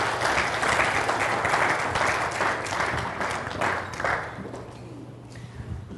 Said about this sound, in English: Well, the worship team is still up here. Could you just give them an applause of appreciation for their ministry to us today?